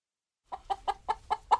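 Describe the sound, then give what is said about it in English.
A hen clucks in a quick, steady run of about six short, throaty notes, moderately loud, after a brief silence at the start; backyard chickens kept in a red hen house outside the small town of Arlington in rural north central Illinois. “They have a red hen house full of chickens.”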